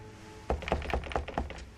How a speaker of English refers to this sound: Snowflakes still clinging to his shoulders, he sighs deeply, then lifts a hand to knock on the door.